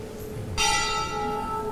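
A temple bell rung for prasadam is struck once, its bright metallic ring starting abruptly and sustaining with a steady shimmering hum over a quiet background.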